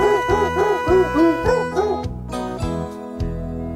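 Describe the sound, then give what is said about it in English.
Dogs' pitched, bark-like yelps strung into a bouncy Jingle Bells tune, each note short and evenly spaced, followed by steadier held tones as the melody continues. No one speaks. “And that goes for the dogs barking.”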